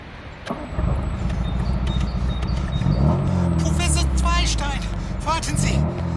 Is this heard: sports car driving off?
yes